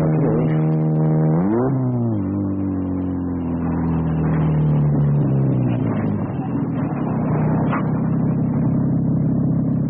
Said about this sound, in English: As we drove away from the senator's house, I heard a car approach.